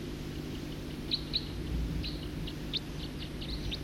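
A songbird sings a series of short, high-pitched chirps and notes, fairly faint, over a steady low hum of background noise.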